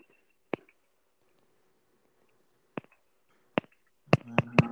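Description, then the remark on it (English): Light, sharp taps on a phone screen: three isolated clicks spaced irregularly, then a quick burst of three more at the end over a faint hum. No one speaks. “That's me tapping my screen.”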